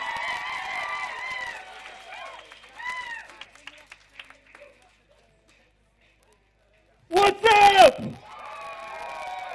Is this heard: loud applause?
yes